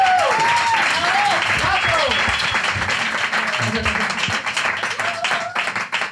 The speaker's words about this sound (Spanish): Gracias por la parte proporcional del aplauso que me corresponde.